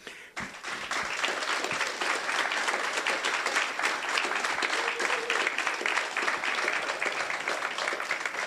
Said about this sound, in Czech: Potlesk pro Vladimíra Kořena.